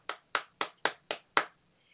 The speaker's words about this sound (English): And to Dylan Roof, a round of applause, young man.